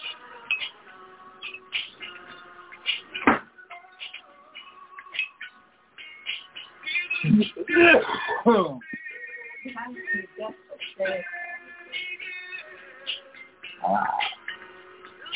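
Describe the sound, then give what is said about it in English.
Someone rummages through a desk drawer for pens, with scattered clicks and small knocks building to a busy burst of rattling clatter midway, then lighter shuffling. “Maybe you're in my drawer.”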